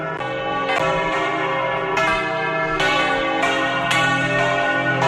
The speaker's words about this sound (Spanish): Y a la 1 de la tarde, hoy todas las campanas de las iglesias de Santander han sonado al mismo tiempo.